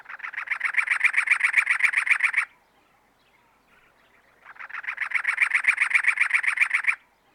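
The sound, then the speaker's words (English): A cactus wren (Campylorhynchus brunea capillus), the state bird of Arizona, gives two loud bursts of harsh, rapid chattering notes, each about two seconds long, separated by a short pause, with no voices present. “The cactus wren, Campylorhynchus brunea capillus, is the state bird of Arizona.”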